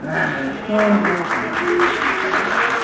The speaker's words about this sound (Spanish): Fuerte aplauso. Ahí para mi hermano.